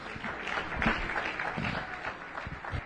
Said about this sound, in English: Oh, somebody clap their hands unto the Lord and give him praise.